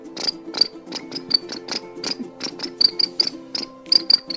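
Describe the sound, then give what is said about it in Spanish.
Crickets chirp steadily in quick, evenly spaced pulses, bright, with a soft tonal hum underneath and no voices. “Y los grillos comenzaban a cantar.”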